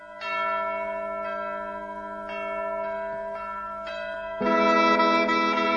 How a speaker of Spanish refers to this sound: vamos a escuchar en primer lugar un villancico que es súper conocido